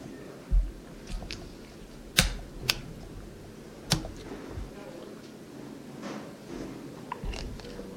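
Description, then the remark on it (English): Crunchy chewing of double chocolate almonds: a handful of sharp, loud crunches at irregular intervals, with softer mouth sounds between them over a quiet background. “Double chocolate almonds.”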